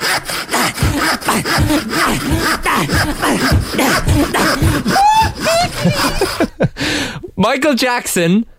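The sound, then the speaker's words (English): A voice imitates a handsaw cutting wood in a back garden, with quick rhythmic rasping strokes, then breaks into a few high, squealing vocal yelps at the end. “was sawing some wood, specifically with a handsaw in your back garden?”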